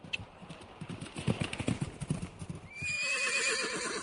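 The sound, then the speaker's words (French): A horse's hooves clip-clop in a steady walking rhythm for a couple of seconds, then the horse lets out a loud, drawn-out whinny that wavers up and down. “D'Artagnan aurait pu chevaucher encore des heures, mais son cheval avait besoin de repos et de foin”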